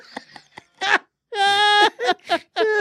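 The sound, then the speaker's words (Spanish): A baby cries out in several loud, high-pitched wailing bursts, starting with a few short clicks and breaths, then two long, strained cries separated by choppier sobbing sounds, clear. “Hasta el nene le dijo. Hasta el nene dijo, diablo.”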